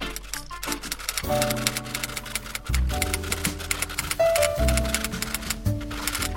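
Fingers type quickly on a keyboard, a steady, uneven stream of crisp close-up key clicks lasting several seconds, with a low sustained musical tone humming underneath.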